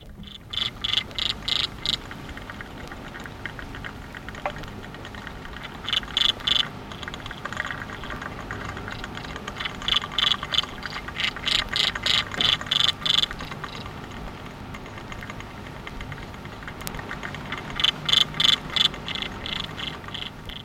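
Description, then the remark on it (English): Underwater chirping of several aquatic insects swimming in a glass aquarium, recorded with a microphone placed against the side of the aquarium: bursts of rapid, ratchety clicking pulses with a thin high ring, recurring every few seconds over a steady background hiss. “The chirping call or song can be heard by the ear up to 18 feet from the aquarium.”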